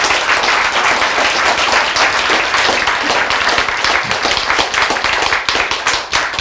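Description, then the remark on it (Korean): An audience applauds steadily, many hands clapping in a dense, loud, even patter that holds for several seconds with no one speaking over it. “박수 보냅시다.”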